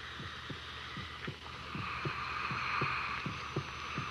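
A steady heartbeat heard through a stethoscope: six rounds of soft, low lub-dub thumps in an even rhythm, over a constant hiss and hum.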